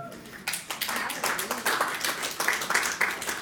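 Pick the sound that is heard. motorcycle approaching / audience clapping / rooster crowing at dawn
audience clapping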